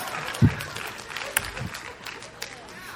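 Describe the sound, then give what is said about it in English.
An audience breaks into scattered applause, a steady crackling patter of many hands with a few sharper, louder claps standing out, continuing for about three seconds. “What? Nobody's applauding? Come on.”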